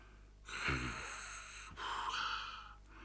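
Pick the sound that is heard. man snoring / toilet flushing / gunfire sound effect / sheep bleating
man snoring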